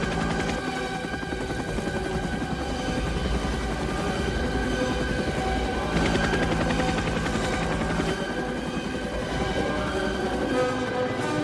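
Loud, steady thudding of helicopter rotors as choppers fly in unison onto a beach in Vietnam in a film scene, with rapid bursts of machine-gun fire rattling through it, a dense, continuous roar that swells slightly midway.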